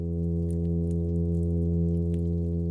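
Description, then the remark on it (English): A fish hums underwater at night, recorded around 9 o'clock at a study site in Washington State: one steady, unbroken low drone with a buzzy, harmonic-rich tone that holds the same pitch throughout, with faint scattered ticks above it and no voices. “the same regions of the brain that a fish uses to produce sound”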